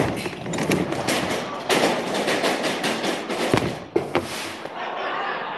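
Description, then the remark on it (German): A sustained fizzing, crackling hiss of sparks from a chain-reaction machine runs throughout, after a burning string releases a hanging ladder that sets a wooden roller rolling. A few sharp pops follow, then a small explosion near the end, moderately loud. “Schließlich sprühen Funken und es kommt zu einer kleinen Explosion.”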